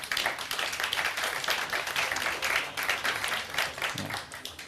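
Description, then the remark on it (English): Steady audience applause welcoming a speaker to the stage, a dense wash of many hands clapping at an even level throughout, with no single claps standing out and no talking. “A big applause, please.”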